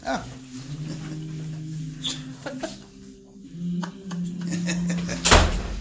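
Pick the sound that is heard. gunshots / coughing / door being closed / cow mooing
door being closed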